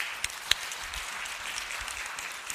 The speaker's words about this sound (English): And can you just not find another awesome reason to give thanks with that beautiful presentation of our children? Let's just give another clap offering to God for what.